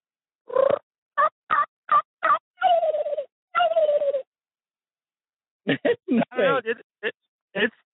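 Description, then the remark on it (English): Someone mimics a turkey with just their mouth, without a diaphragm call: a run of sharp, evenly spaced yelps with a few longer drawn notes, a brief pause, then a quicker burst of excited clucks and cutts. “I killed my bird in Tennessee last year just using my mouth.”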